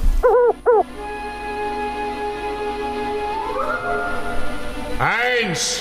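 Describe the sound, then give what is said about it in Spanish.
An owl hoots twice in quick succession, clear, then a low steady drone fills the background before a longer, swooping hoot rises near the end. “Una nube oculta la luna, quedando solo la luz del fuego que se refleja en los enormes ojos de un búho.”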